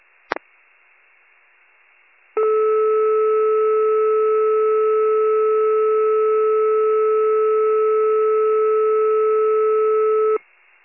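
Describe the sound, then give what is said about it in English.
Fire department pager alert tones for a delayed 1800 hour pager test over a hissy radio channel: a brief click, a short pause, then one loud, steady, unwavering electronic tone held for about eight seconds before cutting off abruptly. “Communications with your delayed 1800 hour pager test.”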